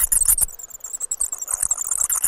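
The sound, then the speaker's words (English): Bat detector output of noctule bat echolocation calls, converted from ultrasonic to lower audible frequencies: a rapid, irregular stream of dry clicks and ticks over a steady high hiss, with brief denser bursts, no talking. “Some species, such as the one we're listening to now, the noctual bat, that starts in the lower ultrasonic range, and apparently young people can hear this.”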